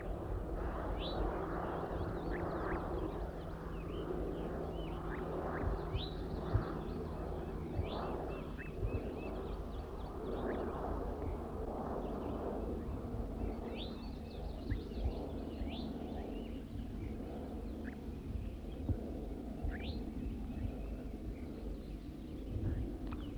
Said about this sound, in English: Wild bird's now giving zezer notes. Recording the wild bird a little bit louder now. Recording the wild bird.